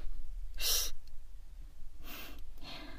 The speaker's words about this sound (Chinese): 在图书馆睡觉就算了，可是你不能打呼噜呀。